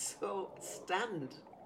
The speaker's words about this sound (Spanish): Solamente contábamos con varias grabadoras de cinta. Descubrí que el sonido era muy líquido, que era como un río que venía de mi voz susurrada.